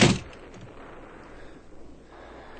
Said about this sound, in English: You shall close the door, Major, and leave me.